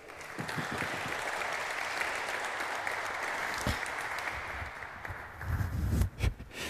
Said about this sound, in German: Großen Applaus bitte.